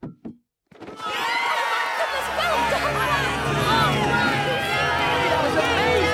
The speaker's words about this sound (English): Everyone's on their feet, clapping for Pat.